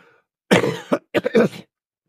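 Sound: cough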